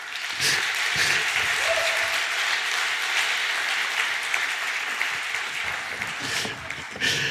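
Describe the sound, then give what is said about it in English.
Steady applause from an audience at Emmanuel giving a warm welcome to a guest speaker, a dense wash of many hands clapping at an even loudness for several seconds, with a few scattered voices mixed in. “Can we give a warm Emmanuel welcome”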